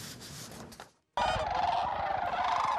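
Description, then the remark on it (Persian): A dense chorus of sandhill cranes and snow geese calling together at the Bosque del Apache National Wildlife Refuge along the Rio Grande in New Mexico, where they winter after migrating from Alaska and northern Canada. The raucous flock noise is loud and continuous, with a brief gap before it resumes even fuller. “مرغابی های ریگزار، آغاز های برفی و بیش از 400 گونه پرنده دیگر پس از مهاجرت از الاسکا و شمال کانادا زمستان را در پناهگاه ملی حیات وحش بوسک دل آپاچی نیو مکسیکو در امتداد رودخانه ریو گراندی می گذرانند.”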